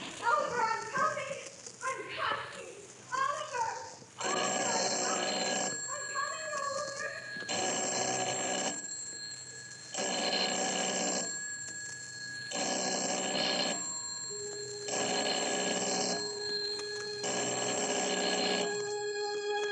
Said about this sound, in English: Telephone ringing, ringing in an empty house.